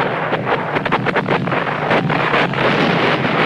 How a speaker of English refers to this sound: Shells explode white hot in a nearby field. Across the countryside, bombs explode in smoky bursts of red and white.